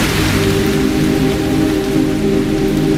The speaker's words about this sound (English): Oh, that rain. Oh, yeah. Tell me about being wet, Matthew McConaughey. He's looking outside at his Lincoln. Oh, that... While it's raining.